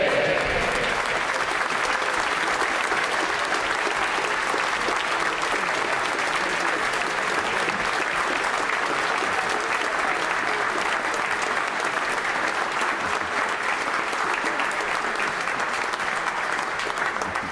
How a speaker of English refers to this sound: And that's the only reason I allow clapping.